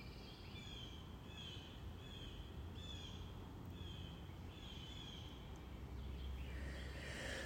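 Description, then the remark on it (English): Blue jays call in a string of harsh, high-pitched cries, about six or seven at a steady pace, over a constant low rumbling background with no one talking, on a clear morning without rain. “Blue Jays are calling to me today, you hear?”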